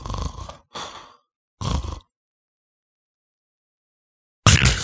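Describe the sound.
A voice imitates heavy snoring in a few rough bursts, then falls completely silent for over two seconds before erupting in a loud, choking gasp, mimicking stopped breathing during sleep.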